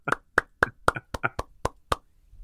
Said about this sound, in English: It took him 17 strokes to get onto the green. Everybody's giving him a little clap. Way to go.